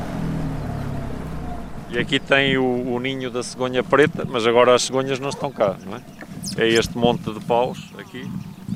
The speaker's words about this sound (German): wirft ein Boot mit Außenbordmotor an. Zur Auswahl hätte auch ein Elektroboot gestanden, aber das ist groß und nicht eben wendig. Um die Felsmalereien richtig zu sehen, muss man nah ran. Das geht nur mit einem kleinen Boot.